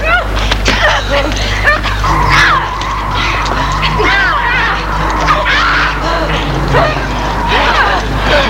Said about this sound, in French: Des voitures qui freinent.